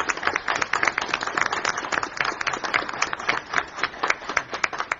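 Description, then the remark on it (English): Steady applause from an audience for Milwaukee County executive and governor-elect Scott Walker, many hands clapping in a dense, crackling wash of rapid overlapping claps that holds at a fairly even level for the whole stretch, with no voices. “Well, I think we need to give him a round of applause.”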